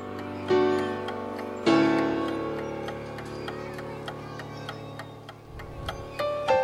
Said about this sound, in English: You hear the ticking clock in the background?